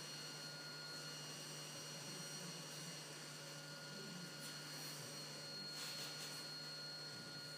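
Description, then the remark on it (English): A cockpit landing gear warning alarm, audible within the headset, sounds as a steady, unbroken tone that holds level throughout, layered over a constant roar of aircraft engine noise, with no one speaking. “And they didn't seem to react to this auditory alarm.”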